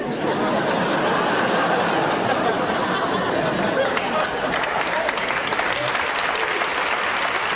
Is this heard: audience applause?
yes